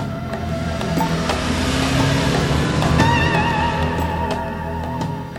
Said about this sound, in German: Sekunden später rasten die beiden mit quietschenden Reifen zum Unfallort.